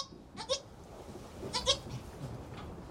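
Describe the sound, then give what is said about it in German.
Young goats bleat in short, wavering cries, two main calls about a second apart with a fainter one after, over a soft background hiss, with no talking. “Den etwas älteren Zicklein bringe ich bei, immer zu sechst an einem Eimer mit 6 Nuckeln zu trinken.”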